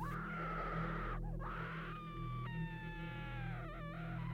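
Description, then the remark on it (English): Drawn-out, pained wailing screams rise and bend in pitch, several overlapping cries strung together over a steady low droning hum, with no talking. “The screams. Oh God, they were horrifying. Filled with so much pain, they froze my blood and goosebumps rose across my skin.”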